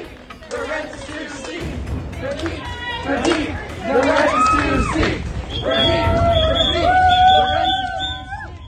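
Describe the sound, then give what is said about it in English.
A noisy crowd of students chants and shouts together at an event, protesting over stolen wages, with scattered claps and shrill whistle blasts cutting through the din, growing louder and more sustained toward the end. “These students remain on stage for nearly 15 minutes before continuing to chant, clap, and blow whistles from just outside the event.”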